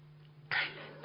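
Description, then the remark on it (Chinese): A person coughs harshly in two bursts, a longer rasping one followed by a short sharp one, after a moment of quiet with a faint low hum underneath. “哎呀哎呀，我这别着急，掏什么能咳嗽成这样？”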